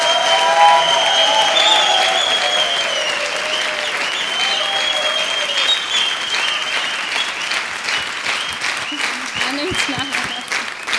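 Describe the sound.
Sustained audience applause, a dense, steady clatter of many hands clapping loudly for the whole stretch, with a few whistles and faint voices mixed in.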